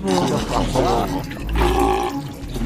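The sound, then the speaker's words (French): A loud, angry roaring voice of a dwarf woman bellows in two long, rough bursts with a brief dip between them, forceful, with no clear words. “Il entend sa naine qui commence à rugir.”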